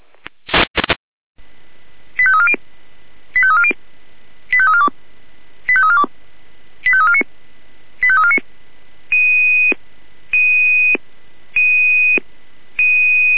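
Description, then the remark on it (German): Radio dispatch alert tones from the Jena control centre alerting fire crews to a building fire at a school in Milda: a loud burst of static, then regular repeating groups of quick electronic beeps, shifting into longer steady pulsed tones, with no voices. “Achtung, hier Leitstelle Jena mit Einsatzalarm für die alarmierten Kräfte.”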